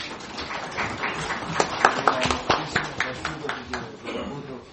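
A crowd of deputies at a meeting applauds steadily to congratulate members celebrating birthdays, with dense overlapping claps and a few sharper, louder hand claps standing out over the rattle, lasting the whole moment without fading.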